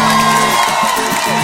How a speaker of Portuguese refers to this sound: Uma salva de palmas pra minha música inspiradora, gente.